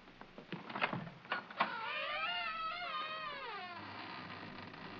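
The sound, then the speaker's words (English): A few sharp clicks and knocks, then an old door at the top of a hidden staircase in an old house creaks open onto an attic in a long, wavering, high-pitched groan that rises and falls for about two seconds before fading out. “I wonder where it leads. A door.”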